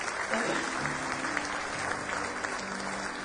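A church audience claps steadily in sustained applause as praise to the Lord during a morning service, a dense wash of many hands at fairly even loudness, with faint voices murmuring underneath.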